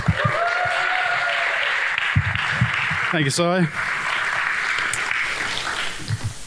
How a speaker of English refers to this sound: But first up, can we go wild and rapturous applause for